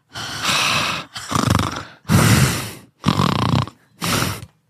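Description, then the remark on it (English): A voice imitates a silent woman's heavy, raspy breathing on the other end of a phone line in five loud bursts, each a drawn-out breath separated by brief pauses, with no words spoken. “She just like, she's like breathing on the other line.”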